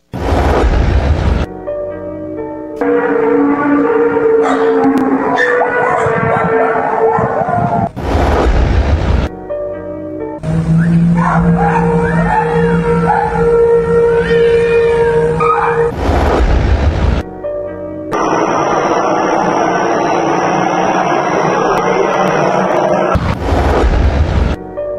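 A recording of a skyquake: loud, deep booms burst out about four times at uneven intervals, with long droning, horn-like tones sounding in between. No one speaks.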